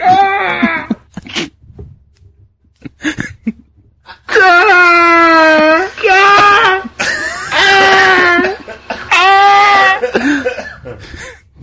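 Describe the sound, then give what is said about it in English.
A woman on a sled flying down a street, stuck partway in a snowbank, screams in a series of long, loud, high-pitched wails with short gaps between them, after a few brief strained cries and gasps at the start. “So she's screaming the entire way down.”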